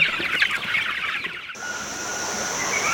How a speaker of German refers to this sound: Ein Hühnerstall im US-Bundesstaat Kalifornien. Dicht an dicht drängen sich die Tiere auf engem Raum.